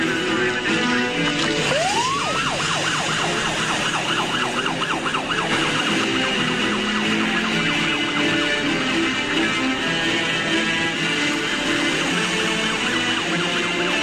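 An ambulance siren sweeps upward, then cycles in a fast, steady wail over a loud, constant roar of engine and road rumble as the ambulance drives through a tunnel. No one speaks.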